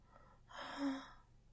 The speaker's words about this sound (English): Those moans and gasps were a little like the sounds I make when I'm all turned on, which I am as well.